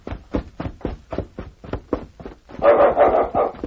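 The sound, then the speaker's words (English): A small dog named King barks in a quick, steady series of sharp yaps after finding something, then breaks into louder, more excited and continuous barking toward the end, with no one talking. “Ah, that's King. He's found something.”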